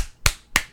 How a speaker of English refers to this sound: Just two claps? Damn.